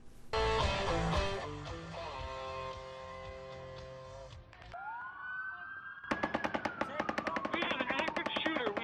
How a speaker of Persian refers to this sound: گلوله‌باری زمان اتفاق افتاد که مردم در یک جشنواره موسیقی در شهر لاس وگاس ایالت نوادا شرکت کرده بودند.